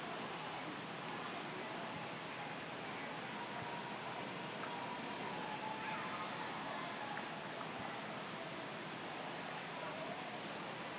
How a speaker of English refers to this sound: there is a fountain in the middle of the pool there. That's what was making the noise